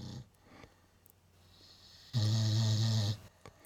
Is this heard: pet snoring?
yes